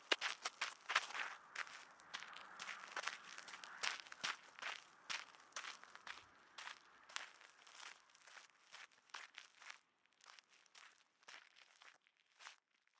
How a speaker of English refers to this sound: I hear his footsteps moving away.